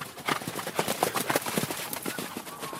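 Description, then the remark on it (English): Several horses, guided by a man, gallop around a dirt track, their hooves pounding in a quick, overlapping drumroll of thuds that stays steady throughout, with no voices. “guides horses on a gallop around a dirt track.”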